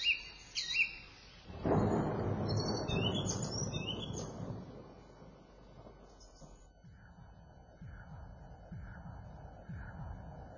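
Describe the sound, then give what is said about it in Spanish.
Birds chirp and trill brightly at the start, then a long, heavy roll of thunder rumbles in and slowly fades while scattered bird calls continue faintly in the background. “¿De que estos pájaros canten como lo están haciendo?”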